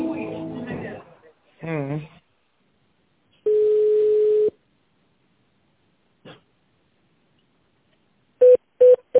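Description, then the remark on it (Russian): Brief voice sounds open, then a steady one-second tone, a faint click, and finally three quick, sharp telephone keypad beeps in a fast run, loud against silence, on a call to the automated phone menu of the company Delk. “Для соединения с отделом проектных продаж наберите 2.”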